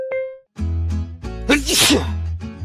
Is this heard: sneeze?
yes